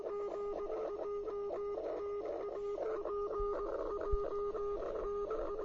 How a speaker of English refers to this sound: An SOS from the motor ship Prince and Dom on fire in the Gulf of Alaska.